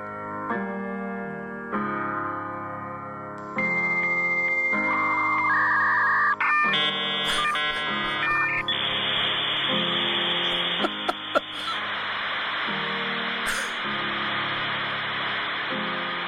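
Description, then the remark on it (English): Harsh, buzzy electronic tones from a fax machine step through the melody of a pop song, then give way to a steady high whine and hissing static. Loud and continuous, with no voices. “We will pause here so you can listen to the glorious tones of a fax machine trying to sing …”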